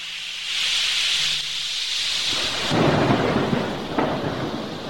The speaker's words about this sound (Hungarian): Vad orkán tombolt, úgy dobálta a nagy vitorlást, mint papírhajót. Hatalmas hullám jött, A hajót az égbe, majd a mélybe dobta, pozdorjává törte az árbócokat.